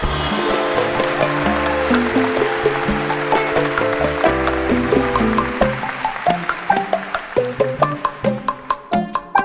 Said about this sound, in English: Okay, Lucy, it was so interesting to me that people clapped for earthquakes.